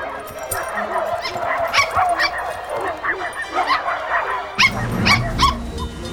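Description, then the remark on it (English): Puppies on a rooftop patio take up the call, barking in quick, high-pitched yaps and yips, several voices overlapping in a lively chorus, with a low rumbling background growing louder near the end. “Two pups on a rooftop patio take up the call.”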